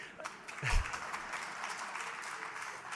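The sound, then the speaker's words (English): An audience in Boston applauds, dense steady clapping that swells briefly near the start with a low thump, then continues evenly at a moderate level without any voices over it. “So I was, wow, I didn't expect to get applause for that, but I am in Boston.”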